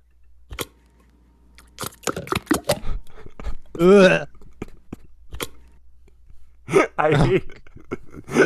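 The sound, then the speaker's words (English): Condensed soup slides out of a can with a wet, gloopy slurp, preceded by a run of sharp metallic clicks and taps, then a second squelching glug near the end. “Pouring condensed soup out of a can is maybe one of the worst sounds of all time.”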